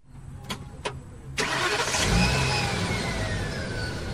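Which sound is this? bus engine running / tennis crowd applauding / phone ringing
bus engine running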